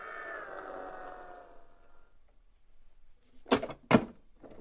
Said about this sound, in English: Look, the door is opening, but so slowly.